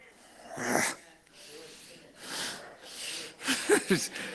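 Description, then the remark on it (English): A man growls in a few rough, throaty bursts, breathy and raspy, ending with a short low-pitched rumble from the throat. “Did I just growl?”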